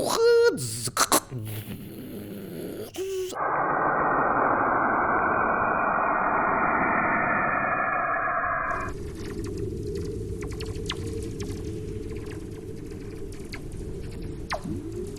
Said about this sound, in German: dass wir Radiowellen erstmal vertonen. Also wir alle denken bei Radio an Ton, aber eigentlich sind Radio Lichtwellen. Das wird aber meistens im Ton dargestellt. Und diese Töne sind sehr fremd. Also es hört sich ungefähr so an. So.